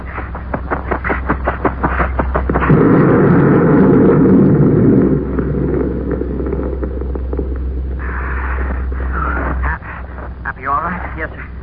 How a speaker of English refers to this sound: That explosion kicked up a lot of dust. Good. That'll hide us from them while we make a break for the ship.